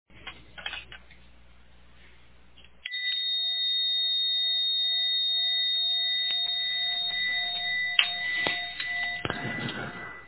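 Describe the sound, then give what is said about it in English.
A bell is rung to resume a class after a 10-minute break: after a few seconds of faint rustling, it holds a bright, steady sustained tone that hums on for several seconds with a few small knocks and clatters underneath. “And so at 8:15 after, I'll ring the bell again and we'll resume.”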